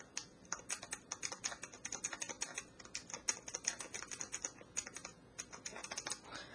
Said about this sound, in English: Now I'll type something on the Braille Plus keyboard just for reference.